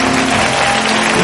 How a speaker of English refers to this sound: If you lifted your hand, get out of your seat and come forward. Give them a hand clap as they come quickly.